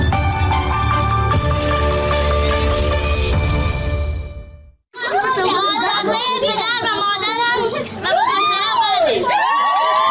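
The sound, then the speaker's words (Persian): A festive crowd cheers loudly at a wedding celebration, many voices whooping and shouting over each other; a brief dense, music-like stretch comes first, then a short pause before the lively cheering continues up close. “جشن ازدواج دختری که گفته می شود 14 سال سن دارد.”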